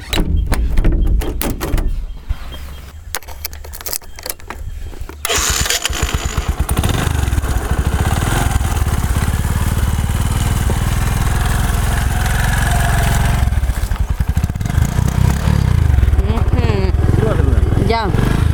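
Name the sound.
motorcycle engine running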